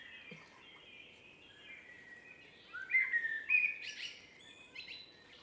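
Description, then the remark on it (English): A blackbird sings fluid, warbling phrases in deciduous woodland on a nature reserve, picked up by a microphone placed out on the reserve, the song swelling briefly midway, over a soft, steady woodland hiss with faint chirps from other birds and no voices. “Yeah, but the blackbirds have the black started.”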